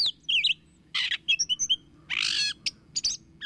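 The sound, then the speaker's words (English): A gray catbird sings a jumbled, varied song of squeaky whistles, harsh mewing notes and quick chirps, delivered in uneven bursts with brief pauses, over a faint low hum. “Gray catbirds are improvisers in the foods they eat and in their ever-changing songs.”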